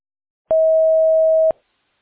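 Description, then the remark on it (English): A single steady electronic beep, a Duo phone system's recording tone, holds at one pitch for about a second, clean and fairly loud, with silence before and after. “At the tone.”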